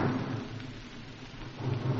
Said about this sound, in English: There are two more just to the left of us now. One, you've heard the explosion already, and a third.